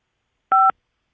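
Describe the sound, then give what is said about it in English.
A single short telephone keypad tone from a dropped phone, a clean two-pitched electronic beep lasting a fraction of a second, heard alone against silence with no voices. “I dropped the phone.”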